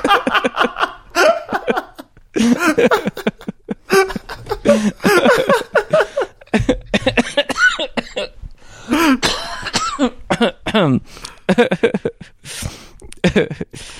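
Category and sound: human body sound, coughing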